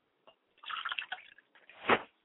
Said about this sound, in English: I pour libations to the east, and I, excuse me, to the north, and I say, Ashe. I pour finally with libations to the south, and I say, Ashe.